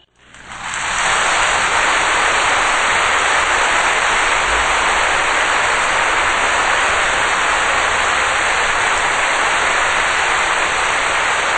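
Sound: warm applause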